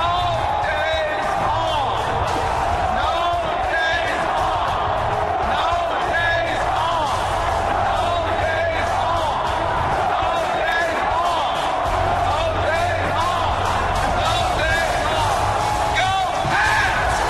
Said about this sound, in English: That's Bill Belichick chanting no days off to millions of people who took the day off to go watch a victory celebration, right?